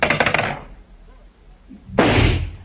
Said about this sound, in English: A gambling joint that featured bare-knuckle bouts, cockfighting, and now, Banyan, with his shotgun in his hands, shooting skeet. Pull!